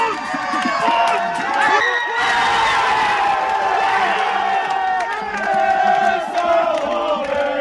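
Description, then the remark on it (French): Fans watching skier Tessa Wehrle's race on TV in a restaurant erupt in loud, sustained cheering and shouting at the finish, with overlapping whoops and yells filling the whole stretch without a break. “Petite frayeur pour débuter, mais très vite devant la télé, la confiance revient jusqu'à l'explosion finale.”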